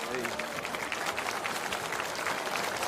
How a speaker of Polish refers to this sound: Także zapraszam Sławka Nitrasa, będzie miał do was słowo. Dzisiaj był w kilku miejscowościach. Także wielkie brawa.